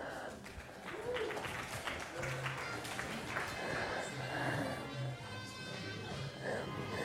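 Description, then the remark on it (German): An audience at a lecture on lung volumes and sports physiology applauds a volunteer, a dense wash of many hands clapping steadily for several seconds, with a few muffled voices and cheers mixed into the noise. “Bitte, Applaus, ja?”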